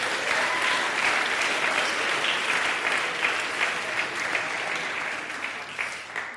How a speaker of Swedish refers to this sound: Kan vi inte ge … en stor applåd en gång till?